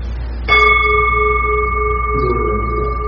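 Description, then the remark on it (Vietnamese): A Buddhist bell is struck once, loud, its clear metallic tone raised upward and ringing on steadily with layered overtones, slowly fading, with no talking. “Có một ví dụ khi tỉnh chuông là mình phải đưa cái tiếng chuông lên như thế này.”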